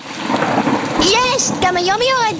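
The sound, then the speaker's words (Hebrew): Steady rain hisses throughout, a dense wash of falling drops, and after about a second a bright, excited voice begins speaking over the downpour. “גם היום יורד גשם!”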